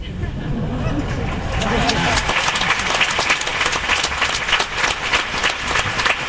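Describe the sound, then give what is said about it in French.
Steady applause from an audience, dense clapping that fills the whole stretch with a rough, crackling texture, with a low murmur of crowd noise underneath in the first couple of seconds. “Je n'applaudissais pas, parce qu'après on finira plus”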